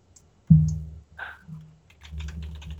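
Keys clatter on a computer keyboard in quick, uneven taps, with a low hum and a thump near the start, and a denser burst of typing toward the end. No one speaks.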